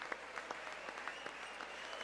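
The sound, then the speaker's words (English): Steady applause from a large audience in Congress during President Trump's joint address, a dense wash of many hands clapping with scattered sharper claps standing out, with no voices. “He spoke for more than 90 minutes with many breaks for applause and several moments of protest as well.”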